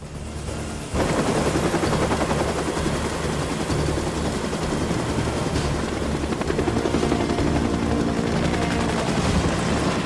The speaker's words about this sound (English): The rotors spin faster, and the helicopter flies off beyond the hill and on towards Santa Barbara.